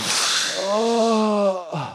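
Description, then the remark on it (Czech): A voice imitates heavy panting: a long, loud breathy exhale that turns into a drawn-out groaning tone, followed by a quick second gasp. “Seděli na úpatí a velmi, velmi oddechovali.”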